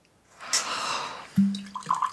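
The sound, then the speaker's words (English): A short splashy pour of wine into a small glass, fairly quiet, ending with a low thump and a couple of light glassy clinks. “There. Don't add water.”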